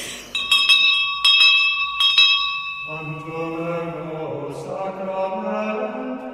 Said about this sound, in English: they used to ring a bell over there so often at this Holy Innocents school